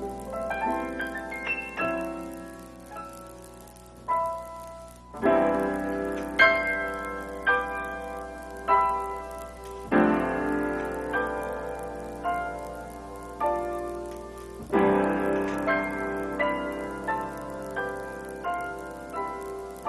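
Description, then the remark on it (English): Piano chimes ring out in bright, percussive chords, fourths high and sixths low, struck in repeating bursts that sustain and blur with the pedal. No one speaks. “Chimes created with the fourth in the right hand, six in the left. Play it percussively. Use your pedal.”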